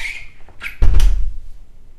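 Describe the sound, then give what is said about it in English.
A door swings shut with a short squeak followed by a solid, heavy thud, then a brief low rumble as it settles. No one speaks. “Close the door.”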